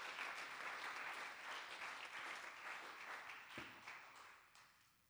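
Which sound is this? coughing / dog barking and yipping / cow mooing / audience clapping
audience clapping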